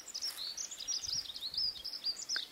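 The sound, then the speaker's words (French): Birds sing in the distance, a steady stream of high, thin chirps and trills running throughout, soft and continuous over a quiet outdoor background with no voices. “Des oiseaux au loin.”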